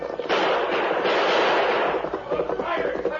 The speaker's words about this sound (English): Blackie and Tex turned and urged their horses into a gallop up the opposite slope, while El Diablo held back to exchange more shots with the oncoming masked man and Indian.